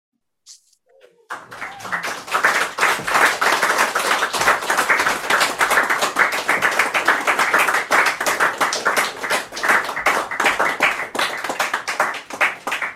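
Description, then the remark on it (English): Enthusiastic audience applause starts after a second of near silence, then builds into a dense, sustained roar of many hands clapping at steady volume until the end. “I hope you can hear that applause”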